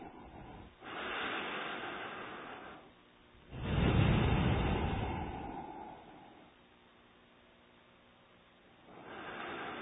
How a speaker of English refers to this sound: So not from the mouth, from the both nostril, inhale, exhale, okay? Not from the mouth, from the nose. Both of them.